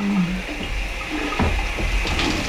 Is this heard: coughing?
no